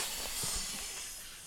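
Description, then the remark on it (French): A voice imitates a snake with a steady, breathy hiss that runs the whole moment without a break, soft, fading slightly toward the end. “Le serpent. Le serpent.”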